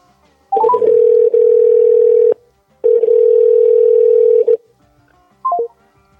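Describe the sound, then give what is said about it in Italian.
A steady electronic phone tone as a mobile phone call line drops: two long sustained bursts with a short gap between, bracketed by quick rising beeps, loud with no talking. “Casca la linea.”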